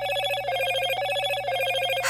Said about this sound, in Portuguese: Aí o telefone dele tocou.